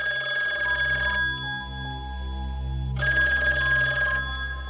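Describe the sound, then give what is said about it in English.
A telephone rings with a call to Paul Lieberman, in two bright, trilling bursts, each about a second long with a pause between, over a steady low hum and no voices. “The phone rings.”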